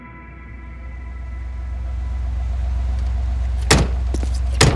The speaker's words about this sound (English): Butcher and Huey stepped from the taxi and, leaving Terror idling in the cab, walked up the steps to a double wooden doors of a mansion in Westchester County.